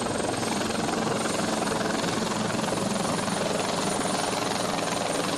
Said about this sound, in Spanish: Los efectivos aéreos recogieron agua de puntos como el puerto exterior, el embalse de Meicende o la playa de Bastiagueiro. En total, 5 helicópteros y 2 aviones para apoyar la labor de brigadas y agentes forestales.